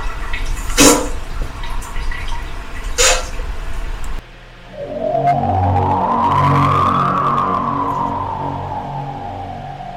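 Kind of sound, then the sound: sound effect, running water sound effect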